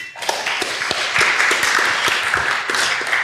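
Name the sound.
audience applause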